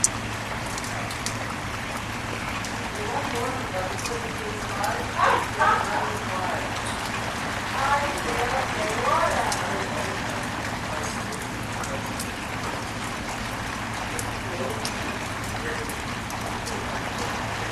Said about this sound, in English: Oh, oh, oh, it's starting to lit. It's starting to rain hard again. Here we go. Oh, it's not going to rain that hard. Good.